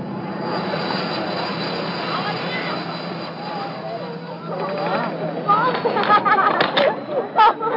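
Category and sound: vehicle, helicopter rotor noise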